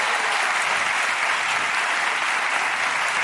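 Sustained audience applause on a show, welcoming one of the programme's directors, a dense, even wash of many hands clapping at steady loudness for the full few seconds, with no voices standing out above it.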